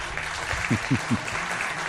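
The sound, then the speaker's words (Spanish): Steady applause, a dense crackling wash of many hands clapping at moderate loudness, with three short low voiced bursts, like brief shouts, rising out of it near the middle. “¿Qué hacemos con este? ¿Aplaudimos o pasamos de?”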